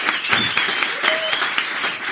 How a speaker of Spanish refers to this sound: Entonces, gente aquí que nos está viendo, por favor, aplaudir para que se escuchen los oyentes.